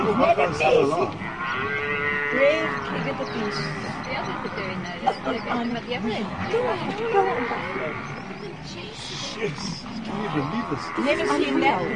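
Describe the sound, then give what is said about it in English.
A calf bawls loudly and repeatedly in strained, wavering cries while lions attack it, with low growling and scuffling mixed in and people talking in the background. The calf is still alive, standing up and trying to get away. “The calf's still alive. It is? Yeah, it's trying to get away.”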